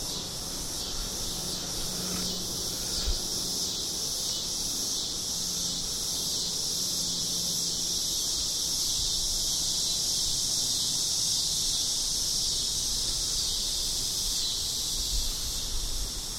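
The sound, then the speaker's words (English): A dense, shrill chorus of cicadas buzzes outdoors without a break, pulsing in a steady rapid rhythm and fairly loud throughout, with no voices present. “Many, many marvelous insects making noise. Cicadas.”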